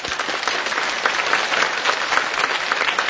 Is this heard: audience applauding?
yes